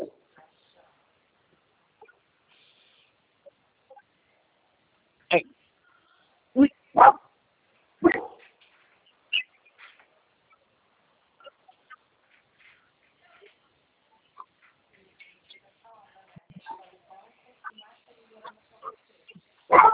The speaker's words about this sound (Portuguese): Tá bom. Cachorro, seu chato. Peraí, que eu já vou falar com ele.